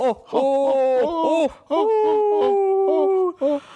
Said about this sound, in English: Oh, it made me yawn.